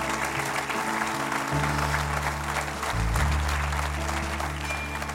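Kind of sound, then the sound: crowd, audience applauding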